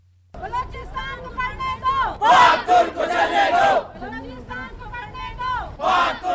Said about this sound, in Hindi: ये मुजाहरा पाक तोक इंटरनेशनल स्कूल एंड कॉलेजेस की मुमकिन बंदिश के खिलाफ कोयटा में इन तालीमी इदारों के तलबा और उनके वालिदैन ने प्रेस क्लब के बाहर एहतजाज के तौर पर किया है।